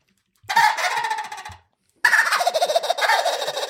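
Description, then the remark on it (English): Someone imitates a turkey gobble: two loud bursts of rapid, rattling gobbling with a short pause between them, the second burst longer than the first. No talking is heard. “I think I even gobbled.”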